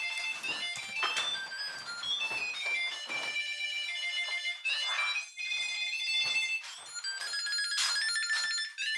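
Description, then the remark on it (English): A Tile Bluetooth tracker, triggered with the Find button in the iPhone app, plays a non-default jazzy electronic ringtone, a quick, bouncy melody of bright tonal notes with shifting pitches, continuing steadily for several seconds with no talking. “All of them are kind of these weird jazzy sounding numbers.”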